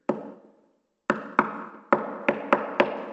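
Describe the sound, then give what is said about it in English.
Hollow knocks on wood, fairly loud: a single rap, a second of silence, then six more blows in an uneven, quickening rhythm, each with a short resonant ring. “And over time, the knocking became pounding.”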